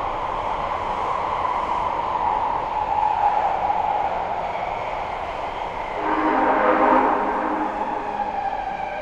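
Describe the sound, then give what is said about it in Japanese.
A subway train runs with a steady, loud rolling rumble throughout, and a tonal whine swells briefly near the end before settling back. No one speaks. “地下鉄をご利用いただきましてありがとうございます。この電車は板金行きです。”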